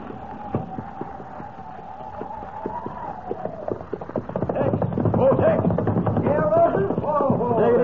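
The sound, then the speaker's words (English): Saddled horses' hooves clip-clop in a steady, uneven rhythm, growing louder and busier midway, with a muffled murmur of voices in the background. “Got your horses all saddled and ready.”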